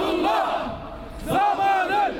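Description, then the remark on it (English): Turkish demonstrators at the Saudi Arabian consulate in Istanbul, protesting the crackdown on protests in Bahrain, chant in unison "Killer Saudi king, you will be held accountable"; two loud rising bursts of massed voices separated by a brief dip, with strong harmonic shouting throughout. “Killer Saudi king, you will be held accountable for what you have done, they shouted.”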